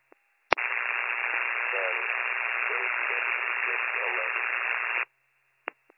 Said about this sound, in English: There's a lot of static coming over the radio.